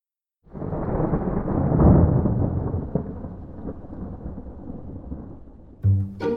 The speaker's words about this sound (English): Jamie huddled under the shop awning, watching the rain.